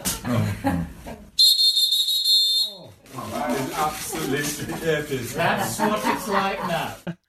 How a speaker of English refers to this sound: This is your moment. Quick, get the whistle from the Titanic. Brace yourself, please.